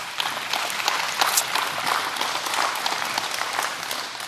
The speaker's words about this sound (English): Stand with me this morning. Amen. Give God a hand clap.